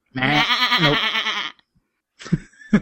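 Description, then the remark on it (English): A human voice imitates a goat, letting out a long, wavering, quavering bleat for over a second, followed by a pause and a couple of short breathy sounds, fairly loud. “I can do a goat.”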